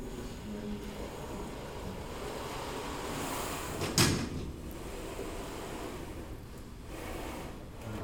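Curtains are drawn shut with a quick sliding swish and a brief scrape partway through, set against a steady, hissing background with no talking.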